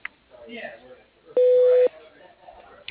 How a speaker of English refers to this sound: If you want to leave a message, please do so at the beep, and I'll get back to you as soon as possible.